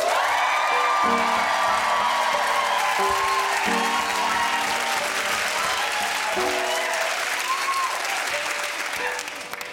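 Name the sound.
audience applause and cheering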